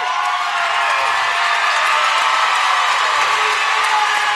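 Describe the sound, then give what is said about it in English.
A large crowd at a state tournament presentation cheers loudly and steadily after a win by the Durand Panthers, a dense roar of shouts and whoops with scattered clapping that holds at full volume throughout, with no break. “And you can hear the crowd.”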